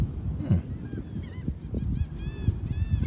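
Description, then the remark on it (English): A seagull in a video of Tom Brady's dog calls loudly over and over, a run of harsh, squawking cries in quick succession against a low, rumbling outdoor background, with no one talking. “I think there's one loudmouth seagull.”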